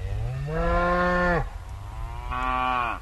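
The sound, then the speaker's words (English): Cattle bellow in two long, loud moos, one after another with a short pause between, outdoors with a low rumble of background noise, as they move from one pasture to another in ranch country north of Livingston, Montana. “In ranch country north of Livingston, cattle bellow as they move from one pasture to another.”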